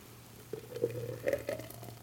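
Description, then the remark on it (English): A thick blended tequila drink pours in short gurgling bursts into glasses, moderately quiet, with soft splashes and a low steady hum underneath; no one speaks. “Let's see if I can pour these without spilling them all over the place.”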